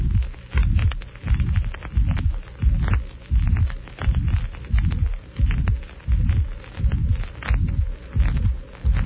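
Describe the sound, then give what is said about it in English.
A recorded heartbeat thumps steadily, about once per second, with a high-pitched blowing systolic murmur between beats, from a dilated heart with an incompetent mitral valve. The murmur follows the first heart sound and lasts through the whole systolic phase. It is clear, with no voices. “Note the high-pitched quality of the murmur, which is blowing in character.”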